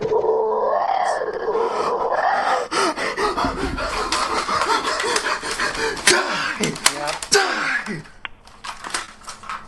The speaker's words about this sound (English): Oh, it's just a dog.